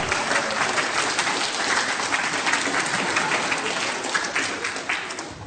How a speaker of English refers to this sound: Has he done well? Let's give him a big cheer.